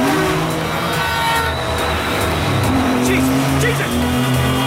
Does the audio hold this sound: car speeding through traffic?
yes